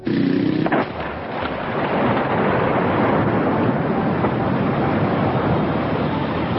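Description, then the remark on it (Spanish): A loud, booming blast erupts at the start, followed by a sustained roar of rumbling noise and crackling debris that continues at high volume throughout, with no voices. “Al ratito se escucha otra terrible explosión.”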